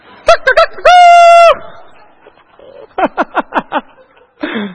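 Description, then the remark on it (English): A person voices a loud rooster crow: a few quick clipped notes leading into one long, sustained harmonic cry, followed by a run of short choppy chuckling bursts and a brief final vocal sound. “Does that sound like a rooster?”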